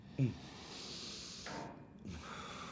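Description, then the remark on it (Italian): Deep, airy breaths drawn in and let out slowly as a breathing practice, moderately loud, with a brief snort-like burst at the start and no talking. “Respira, fallo con me. Respiri profondi.”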